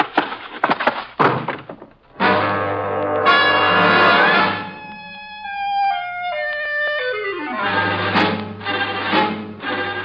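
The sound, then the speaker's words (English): A few heavy thumps like a sergeant's body collapsing to the floor, then a long ringing tone that slides downward before a door is shut with a solid knock near the end. “The sergeant settles gracefully into a pile of blubber and I shut the door behind me.”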